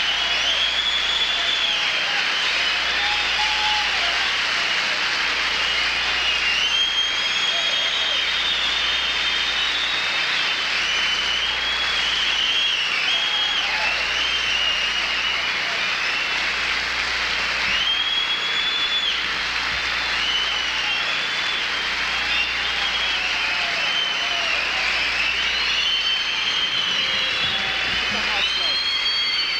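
Audience applause for George Carlin at the end of his show roars steadily for the whole stretch, a dense, loud wash of clapping that never lets up, with a low hum running underneath.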